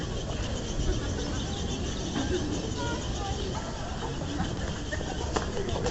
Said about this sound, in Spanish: Como pueden oír, parecen bebés. Bueno, desde aquí yo no puedo ver. Pero parecen bebés pájaros en la palmera.